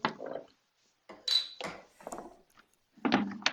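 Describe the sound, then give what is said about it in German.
A bottle of beer fermented with a wine yeast is opened: a handful of short glassy clinks and scraping rattles, one with a bright metallic ring, separated by brief silences, with no voices. “Es riecht schon ganz anders, ne, wenn man die Ja. Flasche aufmacht.”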